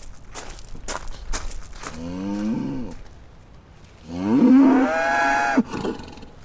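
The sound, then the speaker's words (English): A cow in distress while giving birth lets out two long, strained moos, the second louder and rising in pitch, after a few sharp shuffling steps at the start; no one speaks. “That poor cow isn't going to make it otherwise.”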